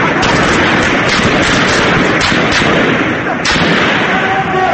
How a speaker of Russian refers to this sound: Очевидцы рассказывают, что на улицах Триполи часто слышна стрельба. Люди, боясь попасть под огонь, вынуждены прятаться в своих домах и в мечетях.